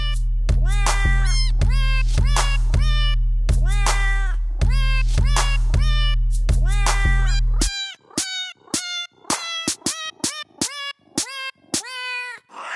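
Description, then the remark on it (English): Cat meows, sampled and matched to notes on a keyboard, play a tune: rapid rhythmic meows over a steady low drone at first, then sharper, separate meow notes stepping up and down once the drone stops. “So what you can do is get a cat's voice, sample it, and then match that sample to actual notes on a keyboard.”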